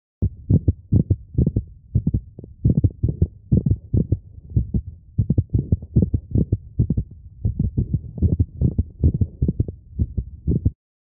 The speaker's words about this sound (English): Now listen to a clinical example of a mid-systolic click recorded from a dog with mitral valve prolapse. This dog also has a sinus arrhythmia.